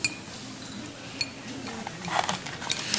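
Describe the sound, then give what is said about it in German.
Special metal cutlery clinks and scrapes inside a glass jar in a series of bright, irregular taps, with a busier cluster of clatter toward the end and no one speaking. “Also es ist nicht leicht, wenn man einmal die Hand da in dem Glas hat, dann kommt man da nur noch mit diesem Spezialbesteck dran.”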